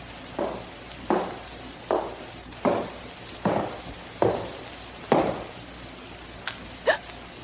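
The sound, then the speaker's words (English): Slow, evenly paced footsteps, about seven firm steps roughly a second apart, followed by two lighter, quicker ones, heard alone over a faint hiss with no talking. “Footsteps.”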